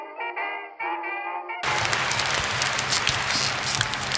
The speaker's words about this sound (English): It's been too long since I've heard that applause. Almost 7 months now. The only applause we ever get.